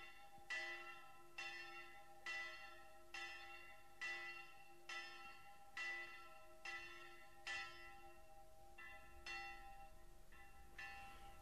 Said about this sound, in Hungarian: Ott a tarisznyát fölakasztották az ágra, maguk meg alája feküdtek, úgy várták a déli harangszót.